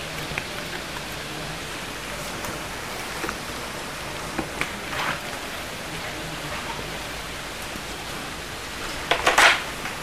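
rain falling

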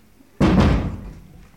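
door being closed

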